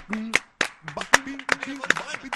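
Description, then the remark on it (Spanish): A handful of sharp hand claps land at an uneven pace, mixed in with people talking over them. “No, o aplaudo o bailo.”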